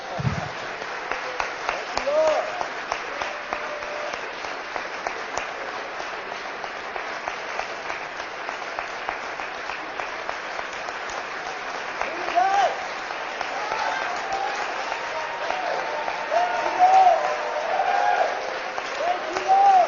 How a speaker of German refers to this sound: Wollen wir den Herrn noch einen Applaus geben?